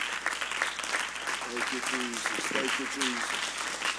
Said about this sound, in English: Amen. Can we give the Lord a hand clap of praise tonight?